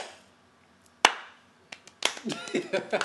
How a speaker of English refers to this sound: Slow clap.